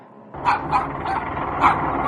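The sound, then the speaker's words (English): A dog barks repeatedly in quick, sharp bursts, about four yaps over two seconds, fairly loud, with some whiny, yipping edges between barks. “Why don't you deal with your dog, and we can talk about this later.”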